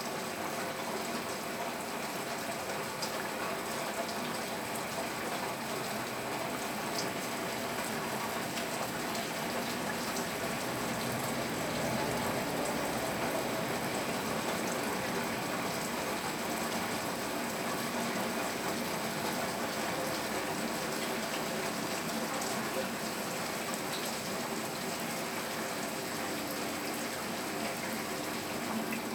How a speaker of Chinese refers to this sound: 我猜你应该能够听到窗外的马路上驶过的车辆的引擎和轮胎摩擦带水的地面的声音。